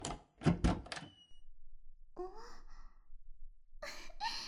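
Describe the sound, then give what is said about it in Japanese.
A door handle clicks and rattles in a quick burst on an unlocked door, then a soft creak as the door swings open, followed by another short clatter. Fairly clear, with no one speaking. “開いてるじゃん。大騒ぎしちゃった。”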